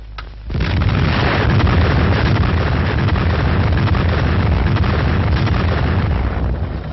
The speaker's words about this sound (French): Vous vivez dans le blockhaus de la mise à feu, la minute solennelle de la première explosion atomique française.